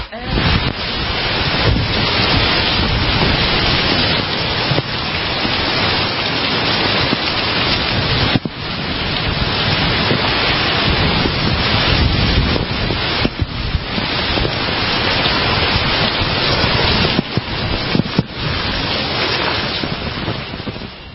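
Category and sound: nature, heavy rain and wind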